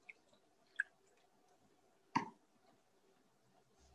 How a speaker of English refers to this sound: I'm just going to have a sip of water, sorry. We're speaking is thirsty work, you see.